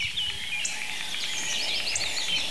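Several birds sing at once in a steady chorus of high, bright chirps and warbling trills during a morning walk in the Hoher Fläming nature area, layered over a continuous hiss with no voices present.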